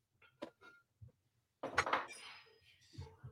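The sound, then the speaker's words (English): A few light clinks of glass, then rum is poured into a glass in a short, splashy stream that brightens as it fills, ending with a soft knock. “You kind of get this going, and I'm going to pour myself some rum real quick.”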